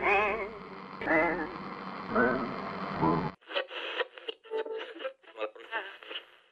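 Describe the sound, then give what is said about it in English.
Radio tuning noise: warbling, wavering whistles over a hiss of static, then a sudden cut to choppy, band-limited bursts like a garbled voice breaking through a weak transmission. “If I'm cutting through the interference, this transmission is Nocturnes.”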